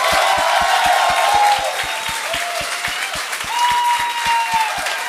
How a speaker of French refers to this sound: Voici, donnez une bonne main d'applaudissement à Daniel Grenier et Martin Perizzolo.